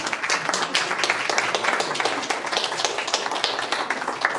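A crowd applauds steadily, dense overlapping claps forming a bright, even wash of sound that holds at a constant loudness throughout, with no voices rising above it.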